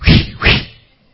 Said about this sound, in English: give me one whip there.